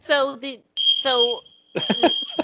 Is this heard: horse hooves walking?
no